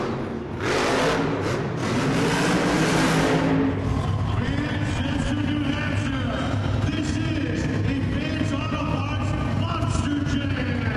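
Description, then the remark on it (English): The engine of Crush Station, a Maine monster truck built in the form of a giant lobster, roars loudly, opening with a harsh blast of noise before settling into a sustained, rising and falling rev, with faint voices in the background. “Crush station, a monster truck in the form of a giant lobster, is followed by Captain's Curse,”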